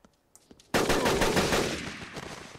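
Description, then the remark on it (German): Loud, continuous video game machine gun fire bursts in after a few faint clicks, a rapid stream of shots that keeps going to the end and only slightly eases off. “Haben wir wenigstens noch 187 Schuss?”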